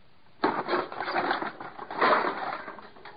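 A wooden birdhouse is smashed apart with a hammer: an abrupt crash, then nearly three seconds of loud cracking, splintering and rattling clatter, with no voices.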